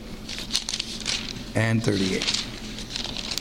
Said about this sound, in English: I love to hear those pages.